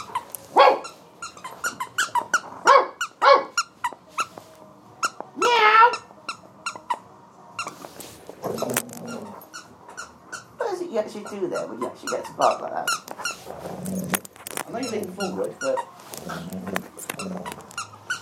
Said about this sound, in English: You actually do there when you actually get to bark like that.